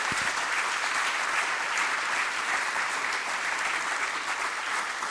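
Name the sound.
audience applause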